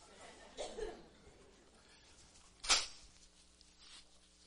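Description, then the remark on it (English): A single short, forceful nose blow bursts out with a breathy, snorting rush of air, preceded by a faint murmur or chuckle. “Let me blow my nose.”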